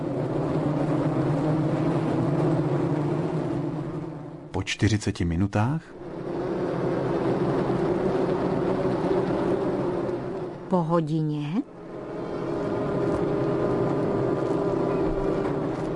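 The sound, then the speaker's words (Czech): A honeybee swarm settled on a tree, recorded by the BBC, buzzing in a steady, dense low drone with a humming pitch, broken twice by a brief spoken phrase before the buzzing resumes. “Když roj usedne na strom, pak zní jeho aktivita takto.”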